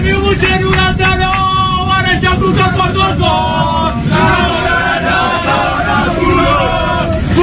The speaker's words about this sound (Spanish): Y para que escuches un poquito los cánticos de los jugadores bajando del avión, subiendo a la jardinera, la voz de Gerard Piqué es fácilmente reconocible.